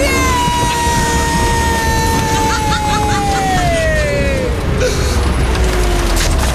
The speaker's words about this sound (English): So that's what happened when Joe Wiley ran over my car with a Chieftain tank.